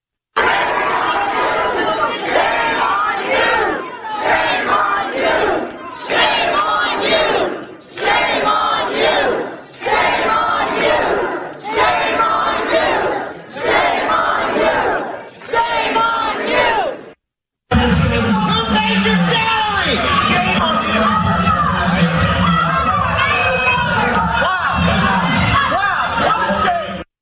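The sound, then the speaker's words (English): A loud, agitated crowd of parents yelling and shouting over one another at school board members during a meeting in Loudoun County, Virginia, with surging bursts of angry voices, a brief cut, then continuous heated chatter and commotion. “Now, let's go to the Loudoun County and listen to parents very emotionally yelling at school board members.”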